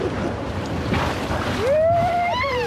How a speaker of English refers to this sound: In late August, whitewater rafters splash gleefully over boulders in the upper Klamath River. It's an awesome adventure, wet and seemingly wild.